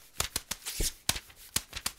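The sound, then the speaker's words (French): Crisp, crackly rustling of paper in a quick series of sharp bursts, about a dozen over two seconds, fairly loud with no voices. “Ça sonne comme du papier.”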